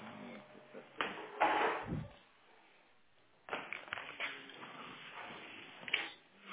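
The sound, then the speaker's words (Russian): Several knocks on a door, a few short muffled raps heard indoors over a busy, noisy room, with faint indistinct voices in the background. “Кто там в двери стучит наши?”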